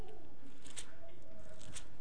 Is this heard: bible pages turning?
yes